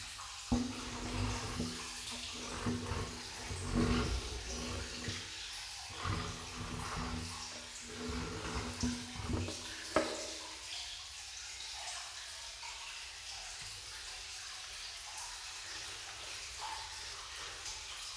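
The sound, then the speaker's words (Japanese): Wet squishing and rustling as soap is worked into a foamy lather with water for washing the body, busy and irregular at first, then settling into a softer, quieter hiss. “羊さんみたいな泡は。”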